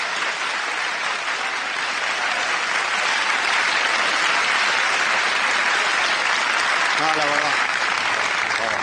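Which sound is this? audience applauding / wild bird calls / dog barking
audience applauding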